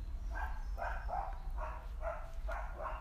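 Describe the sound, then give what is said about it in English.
A dog named Bailey barks repeatedly, about seven short mid-pitched barks in a quick, fairly even rhythm over a steady low rumble, with no voices. “She doesn't realise she does that all day long at the school, kids.”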